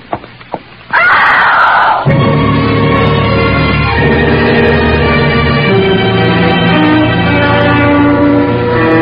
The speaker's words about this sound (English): It was a good, loud scream.